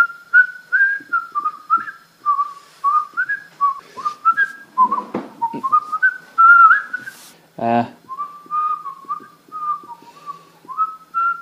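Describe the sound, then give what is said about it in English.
Someone whistles a bouncy theme tune of short, hopping notes in a mid-high register, sustained for about eleven seconds with brief clattering noises and a sharp knock partway through. “I'm still doing the theme music.”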